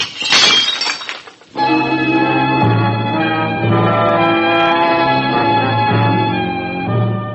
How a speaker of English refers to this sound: I'm going to break another dish.